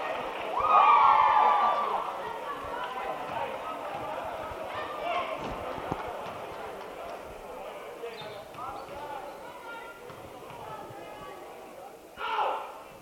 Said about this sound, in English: it's the Freeport crowd making noise.